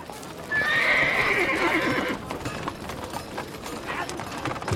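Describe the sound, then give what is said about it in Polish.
A horse whinnies loudly and shrilly near the start, while steady clip-clopping hooves of plodding horses continue throughout on a hard town street surface, with faint background bustle. “Ulicą z hurkotem toczyły się wozy. Człapały konie i woły, bednarze turlali beczki.”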